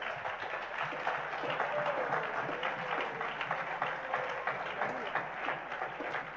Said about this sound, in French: Applaudissons le Seigneur pour sa parole.